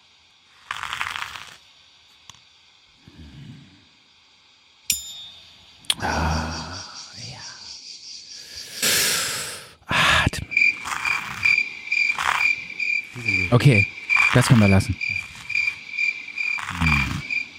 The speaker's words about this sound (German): Mach mal die Grille, das ist schön.